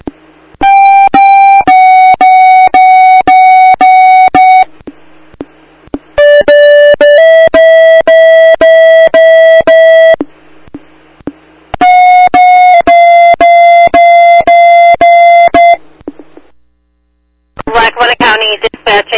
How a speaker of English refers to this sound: Tones for 218, 229, and 269 to respond 526 Main Street and INN for a structure fire, repeating.